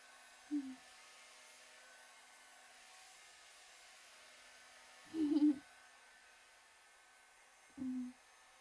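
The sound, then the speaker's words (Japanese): A hair dryer blows with a steady, airy whoosh throughout, fairly soft, broken by three brief low humming surges spaced unevenly, as it is moved slowly while drying and warming hair after a treatment. No one speaks. “しっかりトリートメントをなじませたので、ドライヤーをかけることで温まって、よりしっとり感が出るんです。”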